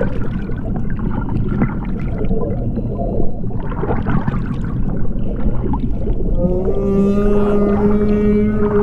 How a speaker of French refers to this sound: Et voilà, le chant des baleines.